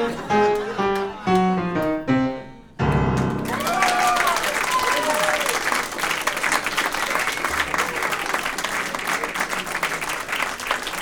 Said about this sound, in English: Now you can give me applause, but please don't give me the clap.